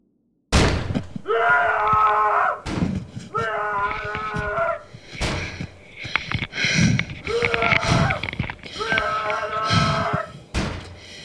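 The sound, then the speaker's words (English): Loud, heavy pounding on a hotel room door at 2:37 in the morning, several hard thuds spaced a second or two apart, with a voice yelling long drawn-out calls in between, urgent. “I'm in my hotel room and woke up to someone banging on the door and shouting my name.”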